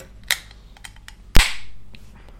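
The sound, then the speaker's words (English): A 330ml can of Rooster's Pistol River American Amber Ale (4%) is opened: the tab gives a small metallic click, then a few faint ticks, before a sharp crack and a hiss of escaping fizz that slowly fades. No one speaks. “I think I need to do some finger exercises for when I open cans.”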